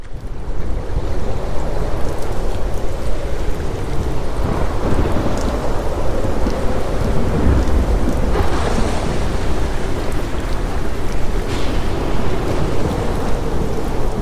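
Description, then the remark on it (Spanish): A roaring storm at sea: crashing surf and steady rain fill the whole stretch, with rolls of thunder rumbling low underneath. Loud, dense and continuous, with no voices. “Imaginad que estáis en una barca en mitad del mar. El viento sopla con violencia, las olas os golpean sin piedad.”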